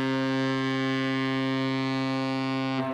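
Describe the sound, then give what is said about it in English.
A ship's horn in the Twin Ports harbor blasts in one long, steady, deep and loud tone that holds for about three seconds before cutting off, with no voices around it. “The shipping season is about to resume in the Twin Ports, and if you think you know the difference between the oar boat, the Paw R. Tugurtha, and the other horns blasting the harbor”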